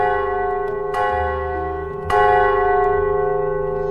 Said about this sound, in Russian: Один из преданных, изо всех сил натягивая веревку, стал бить в колокол.